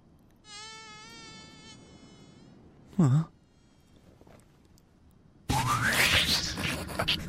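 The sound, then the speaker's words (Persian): A large mosquito or gadfly buzzes with a steady, slightly wavering whine for about two seconds, followed by a quick swooping sound and then a loud, noisy burst with a rising tone. “پشه گاوزی، شاید دفعه بعدی پاهاتو بکنم.”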